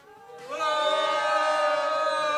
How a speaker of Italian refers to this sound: chiediamo al pubblico qua presente un grande urlo antifascista a tutti quanti, vai!